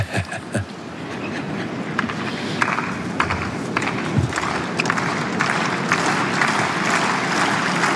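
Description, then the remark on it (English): A large outdoor crowd at a tennis match at Roland Garros 2026 claps and cheers the players on a hot, sunny day, in a steady, dense wash of applause that holds at an even level for several seconds, with scattered sharper claps standing out. “Crowd just jing up the players in front of us as the sun continues to beat down.”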